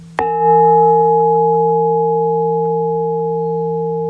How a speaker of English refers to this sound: Okay, we'll start with three bells and end with three bells.